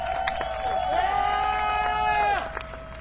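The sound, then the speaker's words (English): An audience cheers loudly for about three seconds for three young Native American musicians aged 13, 15 and 17, with sustained whoops and rising and falling voices over a layer of crowd noise, fading slightly at the end. “So again, another big round of applause for these young gentlemen.”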